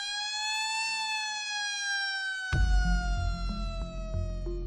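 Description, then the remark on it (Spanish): A loud, sustained prison siren wails on a steady, slowly falling tone for several seconds, sounding at 9:30 at night after the third and last daily head count to signal normality once all inmates are back in their cells; partway through comes a heavy low rumble and clanking like machinery or a large door. No one speaks. “Si todos los internos han vuelto a su celda, volverá a sonar la sirena como señal de normalidad.”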